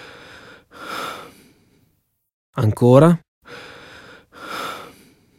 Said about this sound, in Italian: Allora, userò lo stetoscopio. Sarà un po' freddo, ma farò presto. Non si preoccupi, eh? Respiri. Aspetti, non riesco a sentire bene. Provi a respirare più profondamente.